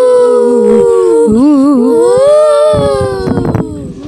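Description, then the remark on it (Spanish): Eerie, wavering ghost voices of the Centro Cultural overlap in long sliding tones, rising and falling like ghostly howls, with a few brief noisy bursts near the end; loud and sustained with no speech. “Y de pronto, se escuchaban las voces de los fantasmas del Centro Cultural.”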